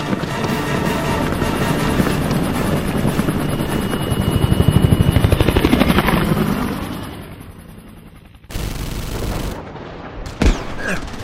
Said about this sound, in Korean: 예, 저는 헬기에 탑승한다. 탑승.